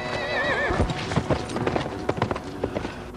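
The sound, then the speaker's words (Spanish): A horse whinnies loudly with a wavering, high-pitched neigh, followed by a burst of sharp hoof clatters on hard ground as horses, spooked by a wind coming out of an entrance, shuffle and stamp. “Un viento sale de la entrada y espanta a los caballos.”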